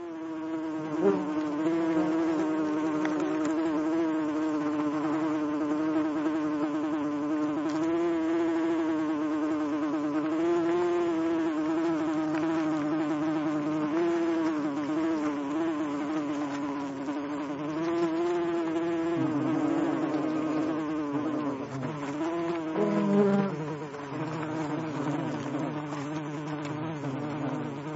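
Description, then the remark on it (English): A steady insect drone from wasps fanning their wings to move air, a continuous layered buzz with shifting pitch that swells slightly at moments and runs unbroken for the whole stretch. “It was observed that when one wasp could not fan any more, another would take over. And when greater air movement was needed, a few would fan together.”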